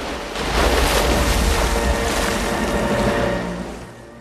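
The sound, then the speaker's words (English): A whale leaps and crashes down onto the water on its side, and the heavy splash becomes a broad, rushing roar of spray that lasts a few seconds before fading, with wind buffeting in the background. “He leaps again and smashes down onto the water on his side.”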